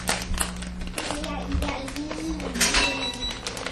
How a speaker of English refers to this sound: I'm going to take the easy way out and get a pair of scissors to do that. Maybe. At last, located the scissors. So we're opening a bag of nuts.